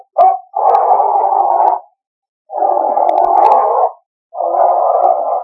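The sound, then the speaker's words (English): A dog named Lobo lets out three long, sustained howling or whining cries separated by short pauses, loud, with no other voices present. “Sergeant, don't go near that dog. He won't hurt me.”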